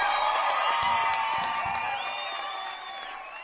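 An audience applauds and cheers after a live music performance in a dense, steady wash of clapping and shouting, with a few shrill whistle-like tones riding on top. It stays loud throughout and eases off slightly near the end.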